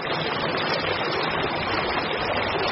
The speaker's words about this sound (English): Especially in Ollantaytambo. Here, water from the river of the same name rushes through town in stone-lined irrigation canals.